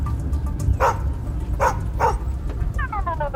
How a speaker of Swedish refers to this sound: De passerar Bernt och en skällande Beppe.